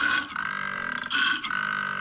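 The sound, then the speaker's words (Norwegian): A deep, rumbling koala bellow, played from a mobile phone held up to a microphone, loud and continuous, with a throaty pulsing rasp that swells, breaks off briefly twice, and resumes in grunting snore-like surges. “Det er en jævla koala.”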